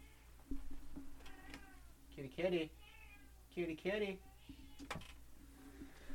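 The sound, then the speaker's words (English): A house cat meows several times, with two loud, drawn-out, wavering meows in the middle and fainter, shorter calls before and after, over a quiet hum. “So my wife just left to go shopping, and the cat is meowing.”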